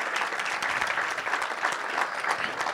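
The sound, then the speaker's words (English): An audience claps steadily, a dense, sustained patter of many hands at a fairly even loudness throughout, with no voices standing out above it. “Can we give these guys a bit of a clap here?”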